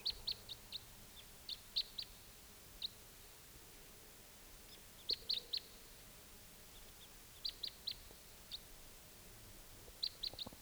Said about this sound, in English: Morning at 6:53. Crossbill's coming. Was a type 2, no sign of it now.